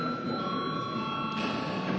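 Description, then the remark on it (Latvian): A chamber bell rings continuously for about two seconds to start a break during the 9 March sitting, a steady, bright electric tone with shimmering overtones, over a low murmur of background noise. “Sāksim jau pārtraukumu šobrīd. Lūdzu, zvanu.”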